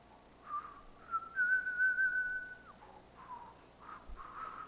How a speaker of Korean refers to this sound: 옆에서 보면 항상 찬송을 불러요. 그것도 아, 이분은 좀 특이하게 휘파람을 부르더라고요.